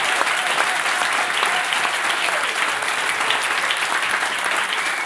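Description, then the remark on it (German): A live audience of FC Bayern Basketball fans applauds steadily in the canteen on the FC Bayern grounds, many hands clapping in a dense, continuous wash of bright crackling noise that holds at an even loudness throughout, with no voices standing out. “Und das Publikum ist da, hat gute Laune.”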